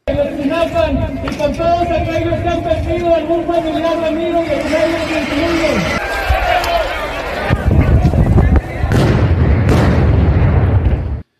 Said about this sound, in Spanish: Seis petardos frente a la puerta central de Palacio Nacional. Las personas que lanzaron los explosivos iban encapuchados,